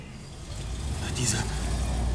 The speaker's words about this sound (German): Diese Verbrecher sind mit ihrem Wagen abgehauen.